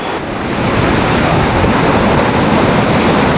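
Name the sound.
rough sea waves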